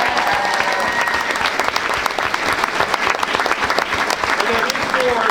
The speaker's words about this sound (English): We need to give her a round of applause.